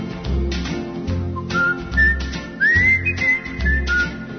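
A person whistles a short melodic tune, bright clear notes gliding and holding, over a steady low rhythmic backing beat with no voices.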